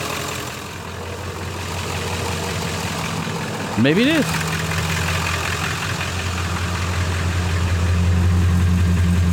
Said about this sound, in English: Oh, now that's the exhaust note. It's a straight six. And that ding was a Toyota ding.